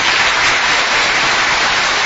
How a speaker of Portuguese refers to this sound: Muitos aplausos. É, valeu a toda a equipe, a galera da Pizzeria Cesani, principalmente a galera da Heitor Penteado, que recebe a galera da Web Rádio Verdão muito bem.